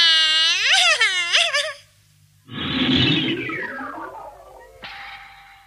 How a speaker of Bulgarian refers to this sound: Кой плаче? Не дочувам.